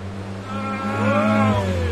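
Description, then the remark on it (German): A car with a loud, wild rumbling exhaust drives past, its deep engine drone swelling briefly as it revs and passes, with no voices. “Achtung, wilder Auspuff.”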